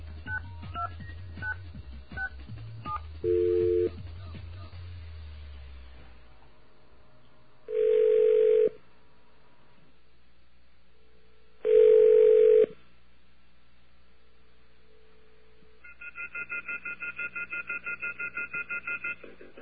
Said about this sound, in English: Yeah, so that's what we're going to do right now, check our voicemail. We have a dial tone, please. Sounds a bit off, doesn't it? I think that's the music in the background. Okay. Let's give a call.